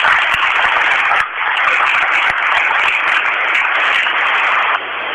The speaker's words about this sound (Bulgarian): Моля за вашите аплодисменти.